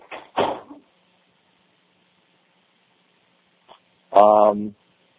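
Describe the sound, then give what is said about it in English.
A door shuts with a single dull thump near the start, followed by a stretch of quiet, a faint click, and then a short voiced sound. “Shut the door, please.”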